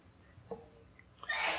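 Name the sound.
sneeze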